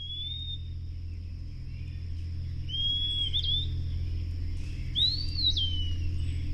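An eastern wood peewee, a tiny olive-gray bird, sings at dawn along the banks of the Ohio River. It gives three clear, slurred whistled phrases, spaced a few seconds apart, high and sweet over a steady low rumble.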